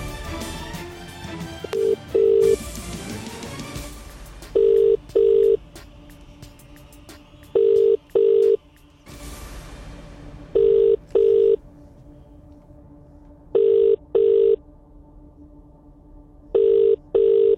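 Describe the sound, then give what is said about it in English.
A phone line ringing out on an outgoing call, with paired ring tones repeating at steady intervals, preceded by a brief burst of dialing noise and static; no one answers. “Come on, answer your phone. Okay, we're calling someone now.”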